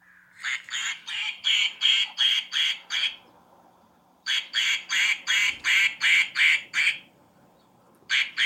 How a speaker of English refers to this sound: And then she took a video of herself hitting the duck. This is the duck, guys, that would ruin take after take. This is what it sounded like.